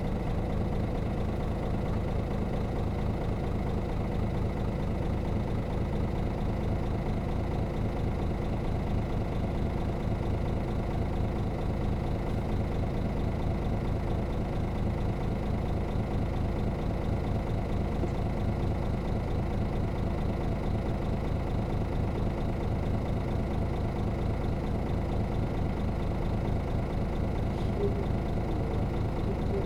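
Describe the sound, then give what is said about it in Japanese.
A bus engine idles steadily while the bus waits before its 22:36 departure, a constant low rumbling drone with a faint mechanical patter that holds an even level for the whole stretch, with no change in pitch or speed. “発車までもうしばらく待ってください。”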